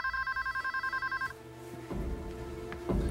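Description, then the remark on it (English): A telephone at a bank, called by a police dispatcher, rings with a single rapid, warbling trill lasting just over a second, fairly loud, then cuts off and leaves muffled background noise and faint rustling. “Once officers were in position, the police dispatcher placed a call to the bank, trying to find out if a robbery was in fact in progress.”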